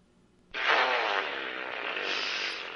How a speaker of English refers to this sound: Ooh, wet one. Yeah, hopefully in your house, Alexa just farted.